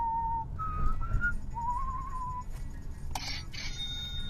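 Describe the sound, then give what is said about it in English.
A person whistles a short Clint Eastwood western movie theme: a few clear, sliding notes over a low rumbling background, ending with a brief burst of shriller, higher tones. “If I could whistle right now, I'd do the Clint Eastwood.”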